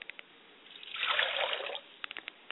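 Water is poured out as a libation toward the north in a steady stream for about a second, splashing onto a surface, with a few scattered drips before and after. Fairly quiet, no voices.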